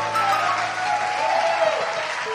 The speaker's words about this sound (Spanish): Dele aplauso, jóvenes.